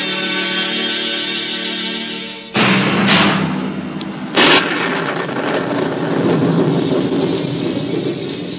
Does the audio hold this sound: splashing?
no